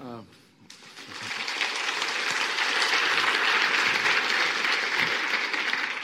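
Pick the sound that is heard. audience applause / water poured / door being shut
audience applause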